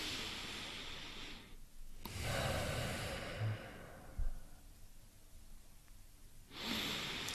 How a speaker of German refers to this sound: Ich werde hier herhocken und sehr lange warten, bis ich etwas sagen will, weil ich es zuerst geniessen muss. Das wäre lustig. Das wäre sehr lustig. Herhock und weißt du, so schnaufen, bewusst schnaufen.